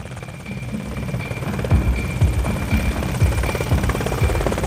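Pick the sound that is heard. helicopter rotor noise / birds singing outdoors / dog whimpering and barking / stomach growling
helicopter rotor noise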